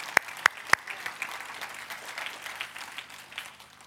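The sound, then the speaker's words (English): An audience applauds a woman who gave the preacher a letter: three sharp, loud claps ring out first, then many hands clap together in a steady, dense patter that fades slightly toward the end. “I think we should clap for the lady that had the courage to give me a letter that I'm going to speak about that.”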